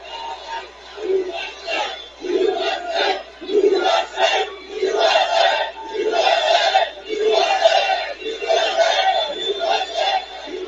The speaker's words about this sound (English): Now, notice the crowd went wild on what? His announcement, I'm going to have to do it again. And this crowd is humongous. He actually says correctly, he says, I can't see the end. It goes over the horizon. It goes out of sight, this crowd in Commerce